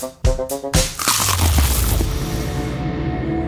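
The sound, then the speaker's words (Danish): A loud crunch of someone trying to take a silent bite of a new McDonald's McCrispy crispy chicken burger, with a few sharp crackles at the start followed by a sustained crackly chewing rasp. No one speaks. “Det her var et forsøg på at tage en lydløs bid af den nye knasende kyllingeburger McCrispy. Desværre fejlede det.”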